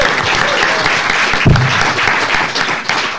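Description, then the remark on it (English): Sustained audience applause for a panel at the end of an evening event: a dense, even wash of many hands clapping throughout, loud and steady, with no voices standing out over it. “A round of applause as well, please, for”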